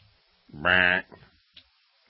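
A single loud goat bleat of about half a second, harsh and wavering, followed by a couple of faint short sounds and then quiet.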